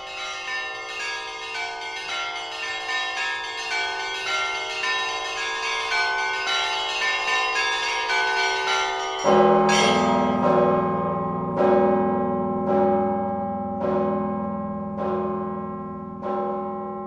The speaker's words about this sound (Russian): Мы продолжаем цикл передач, в которых рассказываем о таком явлении русского церковного искусства, как искусство колокольного звона.